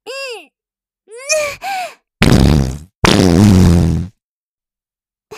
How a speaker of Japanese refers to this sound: またやっちゃいました。やっぱり臭いですよね。私のおなら、ほぼうんこみたい。